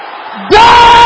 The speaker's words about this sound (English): Can I hear the brothers shouting the same thing? Everybody together now!